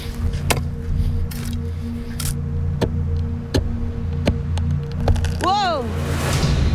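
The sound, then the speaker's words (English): Thin ice on the Kobuk River crackling underfoot: sharp, irregular snapping cracks every second or so, followed by a quick descending zinging ping, all over a steady low rumbling hum. “I don't like that crackling sound.”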